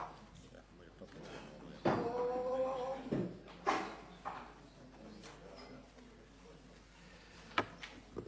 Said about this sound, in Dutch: Verzoek aan de bode om de deur te sluiten. Wordt al gedaan.